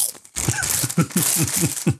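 Someone munching crunchy crisps, a steady crackly crunch with a rhythmic series of soft chewing thumps, about seven bites in two seconds, fairly loud with no talking.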